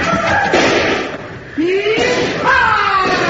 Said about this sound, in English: Here, I'll get that door open for you.